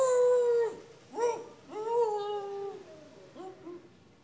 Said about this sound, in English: What's that? It's the dog again. That confounded dog is tied up around here someplace.